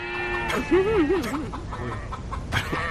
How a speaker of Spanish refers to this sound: Joder, son patos también. ¡Qué espectáculo!